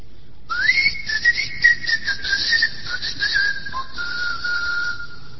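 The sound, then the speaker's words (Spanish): A person whistles one long, sustained call with a gently wavering pitch that slowly drifts lower, fairly loud, with no talking over it, imitating the whistled language of the island of Tracoda, whose inhabitants whistled instead of speaking. “La única característica de esta isla es que sus habitantes no hablaban, sino que silbaban.”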